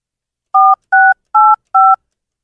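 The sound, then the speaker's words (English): Four touch-tone keypad beeps as Quincy Carter's phone number is dialed on a phone, each a short steady dual-pitched tone, evenly spaced and fairly loud, with silence between them and no voices. “Let's call Quincy Carter and see if he actually picks up, number one.”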